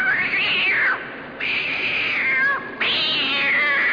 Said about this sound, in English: Thrice the poster cat will mew, then she will be killed by you.